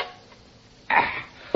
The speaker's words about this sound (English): Now, right, let's get this damn helmet off.